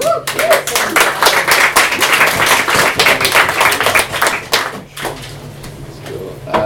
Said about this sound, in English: Can we just give her another clap, please?